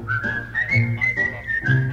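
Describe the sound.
A person whistles a steady, wavering tune that slides gently up and down in pitch, fairly loud, with some low background hum underneath and no talking.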